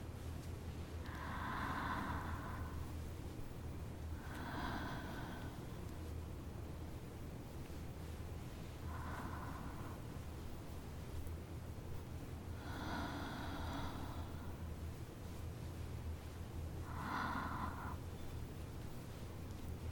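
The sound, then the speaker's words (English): Five heavy, gasping breaths, each a harsh rush of air lasting about a second, come every few seconds at an uneven pace against a low steady background hum, with no talking. “Keep breathing slowly, sweetheart.”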